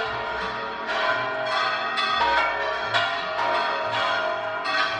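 Bells of Palencia Cathedral in Spain ring out at noon in overlapping peals, several strikes each second, loud and resonant with long ringing tones blending together; no one speaks.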